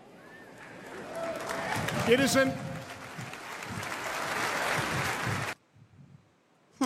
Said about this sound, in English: I want you to listen for this. Listen to the crowd's reaction to this statement.